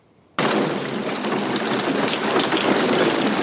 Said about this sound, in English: So Manly pulls up and it's pouring rain.